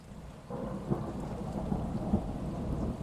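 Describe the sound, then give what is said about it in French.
Steady rain hisses continuously while a deep, rolling thunder rumble swells underneath, growing fuller after the first half-second. There is no talking, just the storm. “on dirait qu'il ne pleut plus.”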